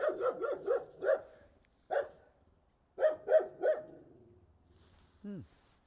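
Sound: dog barking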